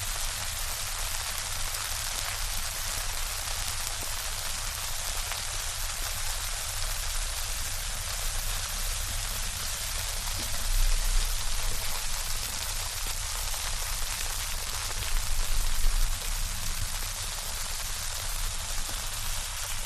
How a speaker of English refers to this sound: Domestic Weather Experiment 4, Soapsuds. Constant steady rain.